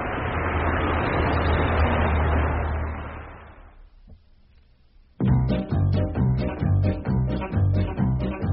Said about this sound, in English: Ah, here comes the bus.